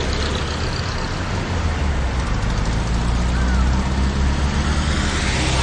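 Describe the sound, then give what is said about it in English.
Steady, loud road traffic roars throughout, a continuous wash of engine rumble and tyre noise as vehicles pass, with a faint high whine briefly rising above it. “Drop it among the traffic.”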